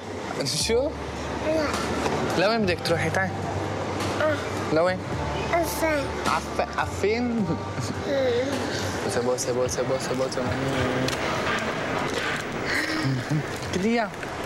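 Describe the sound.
Steady low engine drone and rumble inside a moving bus carrying a man's wife and small daughter to a border crossing, with several people talking loudly and overlapping throughout, a constant busy chatter over the vehicle noise.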